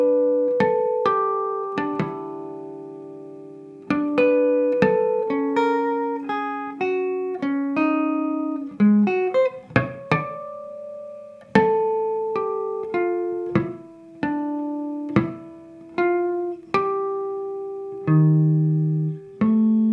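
A ballad melody picked out in chiming guitar harmonics, with clear bell-like notes that ring and decay one after another at an unhurried pace, sometimes overlapping in soft chords. No voices.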